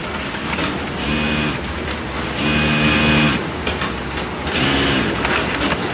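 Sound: sewing machines running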